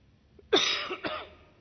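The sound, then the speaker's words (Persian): Two harsh coughs from one person, the first louder and the second following about half a second later, with no talking around them; the coughing is left over from an illness of about a month. “ببخشید این سرفه های ما آثاریست از کسالتی که یک ماهی درگیرش بودیم.”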